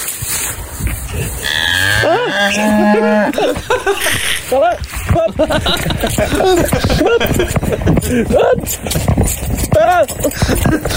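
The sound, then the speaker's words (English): A cow moos several times in drawn-out, wavering calls, loud, mixed with a busy, cluttered background that includes a hollow clip-clop and other animal and human noise. “Is it possible to hit a cow's ass with a banjo?”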